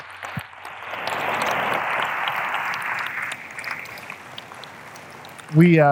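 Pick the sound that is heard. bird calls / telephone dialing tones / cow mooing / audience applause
audience applause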